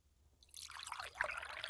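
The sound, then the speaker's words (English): Water splashes steadily into a glass for about a second, a soft, continuous trickle with no one speaking. “Could you pour me a glass of water?”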